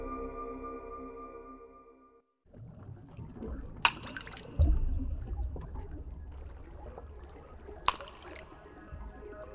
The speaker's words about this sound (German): Du wirfst einen Stein ins Wasser. Es bilden sich Kreise.